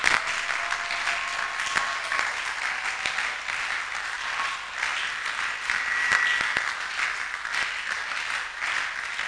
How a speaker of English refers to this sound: Come on, clap. You to clap with some energy, enthusiasm, zeal, power.